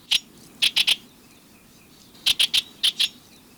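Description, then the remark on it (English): A Bewick's wren sings sharp, high, buzzy notes in quick bursts of two and three, with a short pause between phrases, over a quiet, faintly rustling background. “With a little planning, your garden can be a haven for birds like this Buick's wren year-round.”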